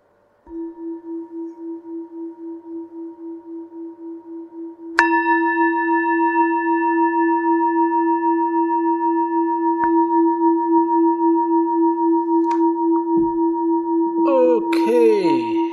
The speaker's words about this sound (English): Okay, I will ring the gong 3 times, and on the 3rd bell, you can come out from your meditation.